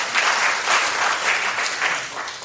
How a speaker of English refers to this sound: Can you wave to us? Come and clap for him as well. He's here.